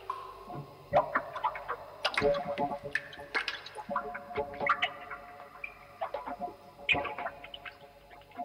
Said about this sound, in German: Das Wasser steigt.